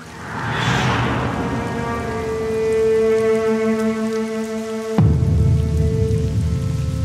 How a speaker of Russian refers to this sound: Загадочным образом, несмотря на дождь, капли стекали как по куполу. Словно его что-то укрывало от дождя.